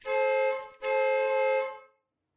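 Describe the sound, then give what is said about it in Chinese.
A car horn honks twice outside a window, a short blast followed almost immediately by a longer sustained one, loud and clear with no voices, then silence. “窗外响起的喇叭声”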